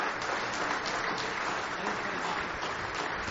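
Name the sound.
audience hand clapping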